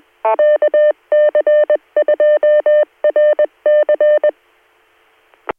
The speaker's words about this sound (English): My phone just rang and I was just hear it.